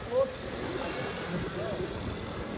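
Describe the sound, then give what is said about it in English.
Steady wash of busy street traffic by the harbour in Marseille on a Monday night, a continuous rumble of passing vehicles, with faint indistinct voices mixed into the background. “But yeah, I didn't realise how good I had it last night, being that there was no traffic. It's a busy place, man.”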